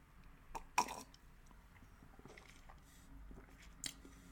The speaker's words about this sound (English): This actually has like a much looser, kind of thinner mouthfeel to it. Looks a little bit lighter, even for a hazy IPA. Looks a little bit lighter than you'd be expecting. I'm going to get another sip here.